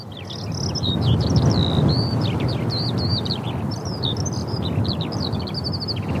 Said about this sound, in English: Analyzing. Waiting for results. Skylark. Alauda arvensis. Nice job, Chirp-O-Matic.